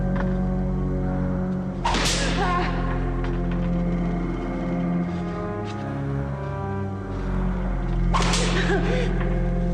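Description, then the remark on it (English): Two sharp, bright whip lashes snap several seconds apart as a man flogs a TV, over a steady, droning low hum that runs throughout. “Grins and continues whipping it.”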